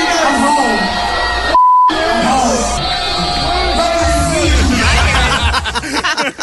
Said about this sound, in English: At that point, I had no idea what was going on, dude. I was just intent on doing one thing, and that's booing the crap out of them.